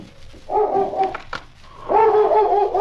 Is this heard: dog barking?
yes